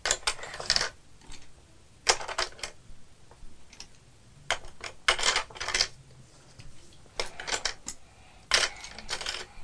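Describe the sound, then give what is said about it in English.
Dice rattle inside a hard game container in several short, clattery bursts, each a quick flurry of sharp clicks separated by brief pauses, fairly loud with no one talking. “I don't think the dice is supposed to go in.”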